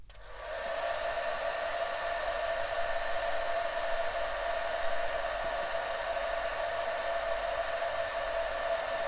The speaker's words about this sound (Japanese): 体を起こしても大丈夫ですよ。このままドライヤーもするので、座って待っていてください。